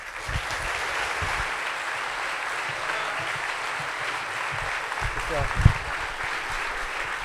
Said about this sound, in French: Merci d'applaudir Thomas VDB.